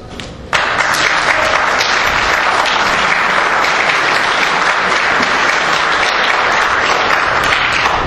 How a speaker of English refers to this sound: Keep that applause going for the Houston chapter. Thank you very much.